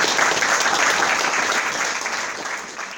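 Steady audience applause: a dense wash of many hands clapping at once, sustained and fairly loud throughout, tapering slightly toward the end with no voices over it.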